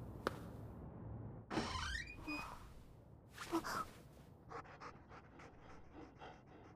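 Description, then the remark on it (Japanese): A dog pants in quick, rhythmic bursts, with a couple of louder breathy huffs in the middle and faster, lighter panting toward the end. No one speaks. “あの犬さんどこ。”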